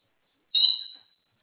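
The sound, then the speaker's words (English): A single sharp, high-pitched call from a noisy bird behind a person on a phone call rings out abruptly and fades away over about half a second, with no talking around it. “Sorry, I've got a noisy bird behind me.”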